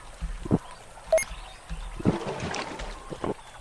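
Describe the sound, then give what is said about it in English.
Watery sloshing and trickling sounds in short bursts as a video game character drinks water from a storage pot, with a faint chime-like blip partway through and a soft windy background. “And I'm drinking out of my container.”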